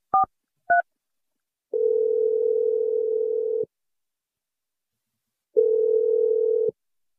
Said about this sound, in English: We're going to dial James's phone number right now. Here we go.